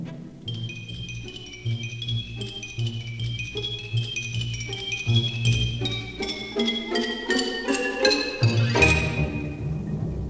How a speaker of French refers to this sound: Le xylophone.